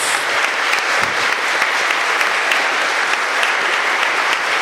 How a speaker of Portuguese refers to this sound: Vamos aplaudir bem forte a palavra de Deus.